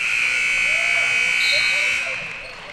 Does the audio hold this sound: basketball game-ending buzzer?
yes